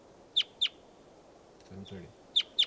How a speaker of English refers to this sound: Recording, here's a wild bird again.